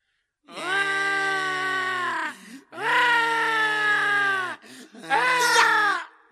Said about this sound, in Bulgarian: Пред една врата видя двама, които плачеха.